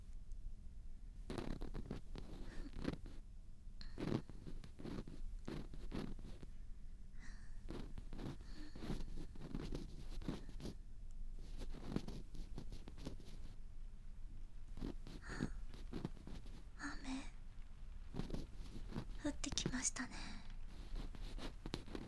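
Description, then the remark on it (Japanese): Scratchy strokes of a pen moving across paper, writing out unpleasant feelings, come in irregular bursts over a steady soft background hiss, with faint whispering drifting in at times. “嫌な気持ち全部書き出してあげますね。”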